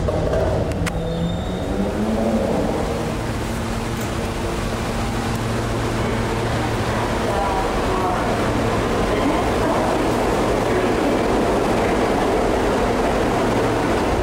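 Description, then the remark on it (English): A subway train rumbles loudly and steadily through a subway station in Brooklyn for the whole stretch, its low droning hum layered with metallic whine and broad rushing noise, unbroken. “I'm at the subway station. I'm gonna walk down to the station and put on my mask.”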